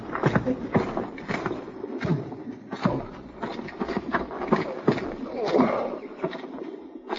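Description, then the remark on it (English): Horses' hooves clip-clop steadily across hard ground, a busy overlapping patter of several horses moving at a walk, moderately loud throughout. “you go bring the horses up.”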